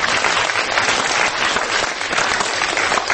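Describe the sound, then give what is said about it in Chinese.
An audience applauds steadily to congratulate Dr. Lai, a university president, on receiving a distinguished talent lectureship award: a dense, even wash of many hands clapping that stays loud and continuous throughout, with no voices standing out above it. “所以我们给赖博士鼓掌一下。”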